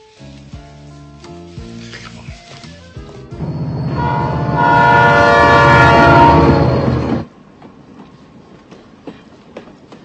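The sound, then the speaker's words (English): A westbound freight train near Channing rumbles and clatters along the tracks, then a loud, sustained horn blares for a few seconds before cutting off, leaving the train's steady rolling noise. “and his partner were seen hopping a westbound freight train near Channing.”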